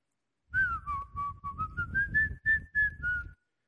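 A person whistles a short, melodic tune, the notes gliding smoothly up and down for about three seconds over a low, rumbling background.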